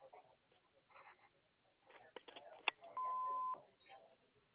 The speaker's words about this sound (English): We can't get to the phone right now, so please leave a message at the tone.